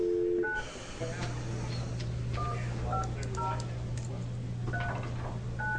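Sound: telephone dialing tones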